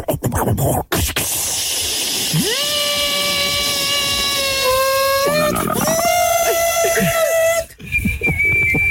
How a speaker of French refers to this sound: Allez, ah, cocotte minute, on prend.